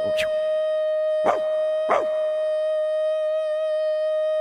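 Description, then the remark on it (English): A dog howls along to a long, steady, sustained tone, with three short sharp yelps breaking in during the first two seconds. Fairly loud, with no one talking. “Oh, it's pretty, ain't it? Look at the dog.”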